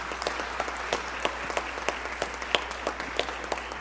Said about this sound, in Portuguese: Então, uma salva de palmas para todos aqui.